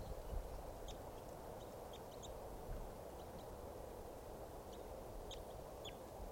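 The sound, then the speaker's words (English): A wild bird chitters in flight in short, high, thin chirps scattered irregularly across several seconds, faint against a steady rushing background noise. No one speaks. “Sort of chittering there in flight.”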